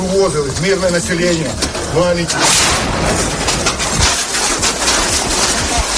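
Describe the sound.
Raised voices give way to a sudden loud burst as a mortar explodes in a street in Irpin, Ukraine, about 30 km from Kyiv, while civilians cross it, followed by several seconds of dense, clattering debris raining down, with sharp scattered impacts in the noisy aftermath.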